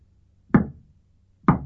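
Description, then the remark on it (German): Two solid knocks on a door, about a second apart, fairly loud, each one sharp with a short hollow ring. No voices around them. “Sie klopfen an.”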